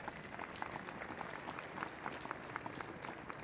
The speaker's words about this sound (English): You can definitely give them a round of applause.